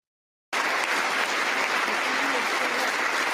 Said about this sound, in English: And we're clapping. We're clapping.